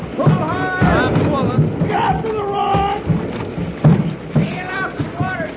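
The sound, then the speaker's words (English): A small boat crashes through rough, churning water, a steady roar of splashing and surging spray, with several people whooping and shouting excitedly over the din. “If we get smashed up, swim to the shore as hard as you can.”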